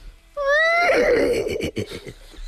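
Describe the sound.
A person imitates a horse's whinny: a loud, high wavering neigh that slides down into a shaky, breathy trill, heard alone for about two seconds.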